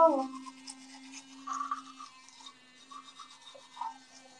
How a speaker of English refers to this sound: Get a load of this. Get a load of this. I bet you wish you had a toothbrush like this. Ready?